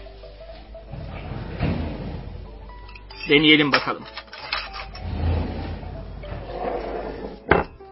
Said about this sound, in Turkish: Dur sana bir bıçak vereyim, sen kontrol et. Yok yok, sen bugün bıçak alma eline. Belki yanlış bir şey söylerim. Bıçağı çekmeceden ben alırım.